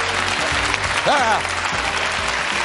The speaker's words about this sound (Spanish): Este aplauso no era para ti, se lo han dado ellos de alivio, ¿sabes? Han dicho, ha salido una, no tengo que salir yo.